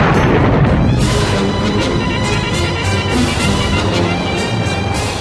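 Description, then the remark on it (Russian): A loud, continuous roar of Russian naval cannon fire, gunners firing explosive shells from shell guns at a very high rate, with repeated booms blurring into a dense, rumbling barrage that holds steady throughout, with no voices. “Да, комендоры наши палили. Только успевай заряжать.”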